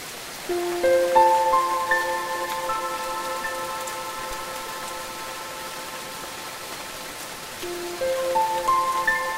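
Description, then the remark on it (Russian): Steady rain patters down, a dense hiss of drops on surfaces throughout. Soft sustained ringing tones swell in near the beginning and again near the end. “Идет дождь.”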